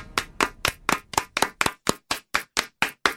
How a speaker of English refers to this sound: If the audience doesn't clap for too long, I'm going to be so pissed off.